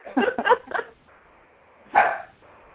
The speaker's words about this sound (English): And I think is the dog a member? Whoever's dog is barking? Yeah. No, the dog's not a member.